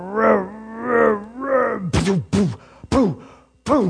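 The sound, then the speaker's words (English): A voice imitates a very old truck's engine starting as the key is turned after repairs: three drawn-out, rising-and-falling cranking groans, then four short, sharp bursts that sputter into life, loud and rhythmic. “And finally the day came and I put the key in turn the key, and it goes.”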